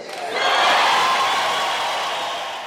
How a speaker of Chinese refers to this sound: 消息传出，首都街头汽车笛声阵阵，大众欢呼雀跃。